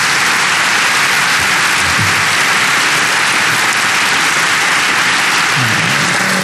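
A dense, steady burst of applause from a large crowd, loud and unbroken for several seconds, the many claps blurring into a continuous rain-like hiss with no voices.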